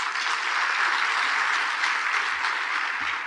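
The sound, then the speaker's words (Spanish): Steady, dense applause from an audience welcoming a speaker, a continuous wash of many hands clapping at even loudness throughout, with no pauses and no voices standing out. “Entonces recíbelo con un fuerte aplauso, ¿vale?”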